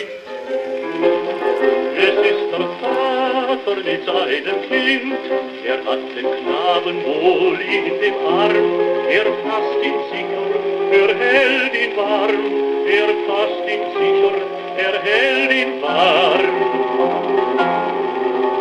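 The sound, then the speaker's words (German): Goethe's Erlkönig, set as a song by Carl Loewe, plays from an old shellac record on a hand-cranked gramophone, thin and band-limited, with a singing voice and accompaniment under steady surface hiss and frequent crackles and pops throughout. “Am Knistern und Rauschen der Aufnahme ist es zu hören. Das Lied wird von einer Schellackplatte abgespielt.”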